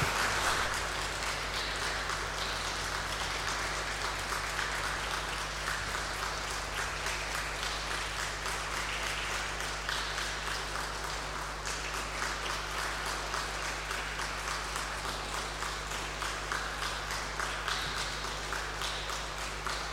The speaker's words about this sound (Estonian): Saame siis ka tänada selle ilus õhtu eest aplausiga, nii nagu ikka oleme neid tänanud.